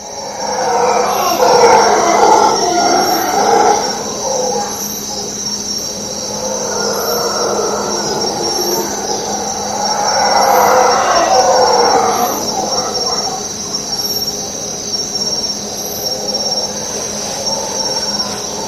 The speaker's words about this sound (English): So that was the howler monkeys.